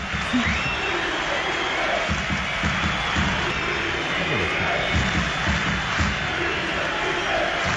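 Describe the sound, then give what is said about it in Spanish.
A large stadium crowd at the Barça–Leganés match chants in loud, rhythmic surges over a constant roar of noise, with shrill whistling mixed into the din throughout; fans in the north stand shout about coach Luis Enrique and whistle in protest. “Sí, gritos de Luis Enrique desde el fondo norte. Ha habido gente que ha acompañado, pero también ha habido música de viento. Pitos.”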